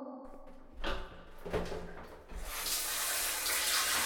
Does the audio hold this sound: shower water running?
yes